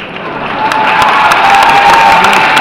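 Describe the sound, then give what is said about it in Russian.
A large crowd shouts a bodhisattva's name together in a loud, dense roar that holds steady throughout, with no single voice standing out from the mass of voices. “Например, выкрикивают ним бодхисаттву.”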